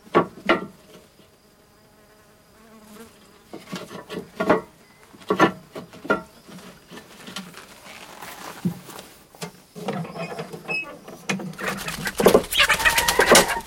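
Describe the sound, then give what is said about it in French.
Chickens in cages cluck and squawk in short, scattered bursts, with a steady buzzing hum underneath; the clucking grows busier and more continuous toward the end. No one speaks. “Des poules.”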